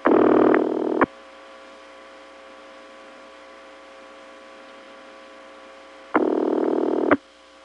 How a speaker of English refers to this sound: Now we're still hearing the line ringing, but there's no craziness. I wonder if this is really the same line.